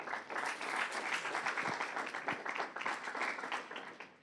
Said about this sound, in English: Come and clap for him. He's a good God.